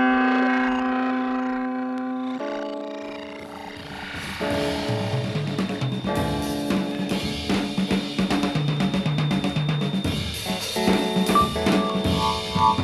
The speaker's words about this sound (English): Then there's the electric clavinet. It's really like an electric clavichord. And it has strings, and it has little rubber hammers that hit the string when you press the key down, like this.